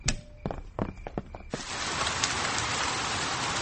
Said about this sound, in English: It has been raining all night, and now the garden is very wet.